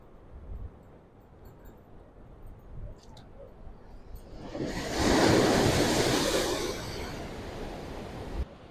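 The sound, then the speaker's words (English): Ocean surf rolls in: a low, steady wash builds into a loud, broad crash of a breaking wave at mid-clip, then slowly recedes into a softer hiss. No voices are heard. “Let's take a look at the waves for a second.”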